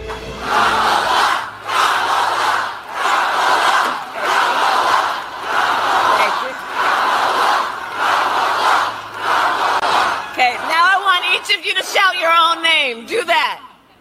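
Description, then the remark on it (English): A large crowd chants Kamala's name in loud, rhythmic repeated bursts for about ten seconds, then Kamala begins speaking and cuts off the chant as it drops away. “And the next thing you do is kill the crowd chanting your name.”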